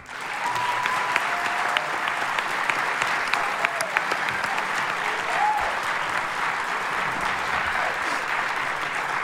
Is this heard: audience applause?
yes